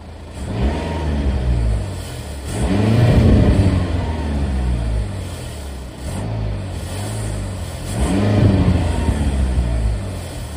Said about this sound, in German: Also Plug-in-Hybrid, das Auto, der Motor, der springt ganz unvermittelt an, ja, habe ich eben ehrlich gesagt, gedacht. Ich habe das heute Morgen noch aufgenommen und ich habe mich ehrlich gesagt ein bisschen erschrocken, dass er so unvermittelt